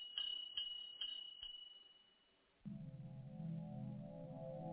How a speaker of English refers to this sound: He laughed out loud, and just as he did, the bell on his shop door tinkled along with his laughter.